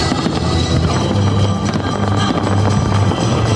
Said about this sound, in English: Beautiful. I mean, the fireworks are flares coming off the bottom of the Bally's logo. That's disappeared now. It's just finale after finale of the fireworks. I've never seen a fireworks show like this ever. Not in this type of close proximity.